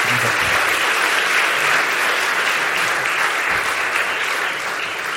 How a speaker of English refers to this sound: Give her a wee round of applause. She was brilliant, wasn't she?